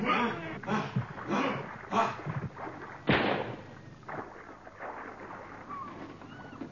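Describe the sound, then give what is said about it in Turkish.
A single sharp rifle shot, fired from among boats, cracks out abruptly after a stretch of shouting voices of men rowing, then fades into a steady wash of water and boat noise. “Bir tüfek sesiydi.”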